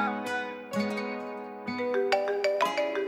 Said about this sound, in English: When I hear that phone ring, gotta bag it up. When I hear that phone ring, I just be catching them pennies. Phone go ring, ring, ring.